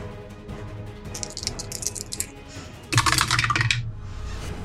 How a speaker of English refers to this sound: Ah! As I throw my dice on the floor.